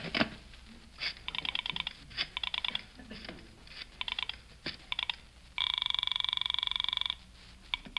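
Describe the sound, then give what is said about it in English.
A phone being dialed to call the Palm Springs Police Station: a quick run of clicks and short electronic beeps, then a steady, longer tone, fairly clear with no one speaking. “I knew I'd need all the police help I could get on this case, so I went to the phone.”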